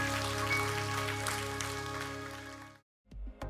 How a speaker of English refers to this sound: Let's give all those that prayed that prayer today a big, big hand clap.